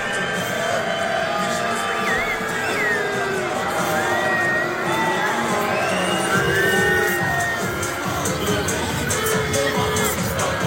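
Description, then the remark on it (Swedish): A large crowd at an official afterparty at Berns boos and shouts at three young men, who also have ice thrown at them; many overlapping voices rise and fall in a dense, steady roar that stays loud for about ten seconds. “Ja, det blev inte bara burop då, utan det kastades faktiskt is på dem också då.”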